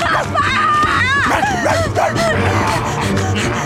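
A girl screams at full force, her shrill voice sliding up and down over a dense, loud backdrop of other commotion that runs through the whole few seconds.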